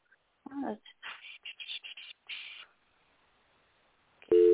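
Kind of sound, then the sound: signal or alarm, telephone ringing tone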